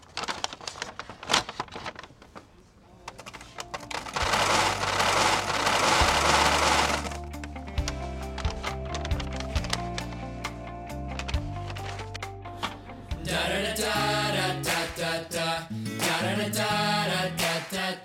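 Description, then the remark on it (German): Dry goods pour out of a bulk dispenser at a package-free refill station into a bag set on a scale, in a rushing, rattling stream that swells loudest midway, with a steady melodic tune playing underneath and no one speaking. “Und wir wollen uns jetzt was abfüllen. Dazu legen wir das einmal auf die Waage.”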